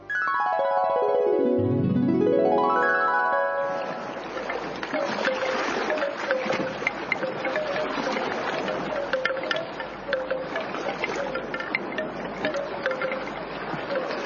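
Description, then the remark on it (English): Water laps steadily against the shore of the Sea of Galilee in a continuous splashing wash, preceded by a brief swooping tonal sweep at the start. No one speaks. “You know, a long time ago, Jesus was teaching near the Sea of Galilee.”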